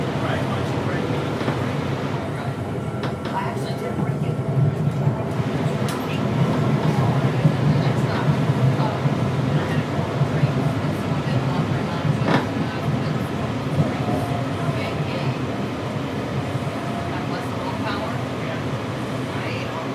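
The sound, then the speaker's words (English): A Red Line metro train runs steadily, its continuous low rumble and rattling filling the whole stretch at a fairly loud, even level, with indistinct voices mixed in beneath the noise; an announcement asks boarding passengers to move to the center of the car. “When boarding, please move to the center of the car. This is a red line train”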